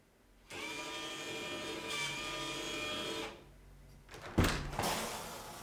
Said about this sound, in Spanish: Ahora tenemos el control de nuestra cerradura desde nuestro teléfono, pudiendo abrir o cerrar la puerta. Como podéis ver, el control desde la aplicación de TD es inmediato y la cerradura se abre rápidamente.